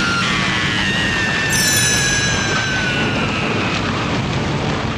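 A lightning strike splitting a mountain: a loud, steady crashing roar with a sharp burst partway through and high ringing tones that slowly slide downward, with no voices.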